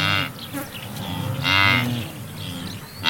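A herd of Serengeti white-bearded wildebeest grunts and lows in overlapping calls, deep, relaxed nasal moans rising and falling one after another, continuous with no pauses, and no voices.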